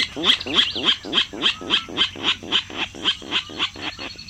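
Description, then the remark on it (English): A Virginia rail calling from a marsh in spring gives a steady run of about fifteen harsh, grunting notes, roughly three per second, each one raspy and fairly loud, over a faint constant hum. “Now there's a comical sound coming from the marsh. It's a Virginia rail, unseen but hardly unheard, ringing in the new season.”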